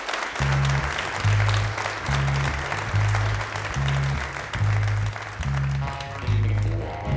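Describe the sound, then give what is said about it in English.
An audience at a Red Barn Radio show in Lexington applauds steadily for several seconds, a dense wash of clapping, while a band's low, regularly pulsing bass notes play underneath. “Hey, once again, let's hear it for”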